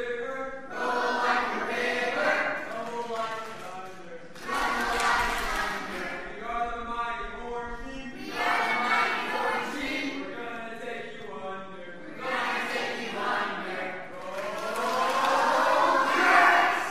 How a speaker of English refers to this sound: Come on, Orange Team, let's get you a cheer. Ready? Get your team cheering. Here we go. Let's hear it, Orange.